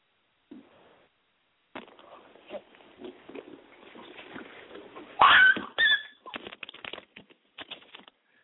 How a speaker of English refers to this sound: Bear with me, people. It's just this young dog just running around, doing a whole lot right now.